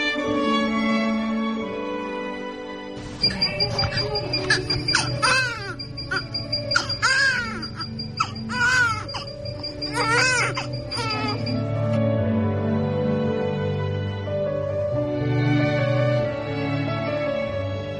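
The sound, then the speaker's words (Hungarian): A newborn baby cries in repeated, wavering wails, loud, with short gasping pauses between bursts, continuing steadily for the whole stretch with no one talking. “Ezzel a hanggal indul minden nő számára az anyaság, legyen az saját baba vagy örökbefogadott. Rég volt, amikor az én kisfiam így sírt, de ha ezt a hangot hallom, ma is megáll egy pillanatra az idő körülöttem, és már is újra ott tartom őt a karomban.”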